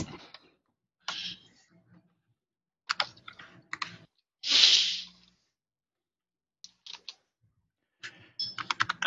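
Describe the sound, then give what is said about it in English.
Several people typing on computer keyboards, clattering keys in uneven bursts separated by short pauses, moderately loud, with one brief rushing noise partway through. “Everyone start typing at once.”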